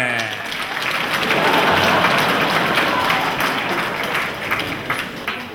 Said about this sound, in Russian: Встречаем бурными аплодисментами!